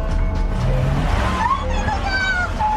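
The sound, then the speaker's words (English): A car engine revs as the vehicle suddenly lurches forward at a crosswalk at a red light while a mother and her toddler cross the street, a loud steady rumble with a rising whine running through the whole moment. “The car moved forward under its own power.”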